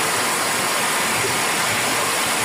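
Loud, steady rushing of floodwater pouring through the streets of Santiago de Cuba ahead of Hurricane Melissa's arrival, a dense continuous roar of churning water with no pauses and no voices.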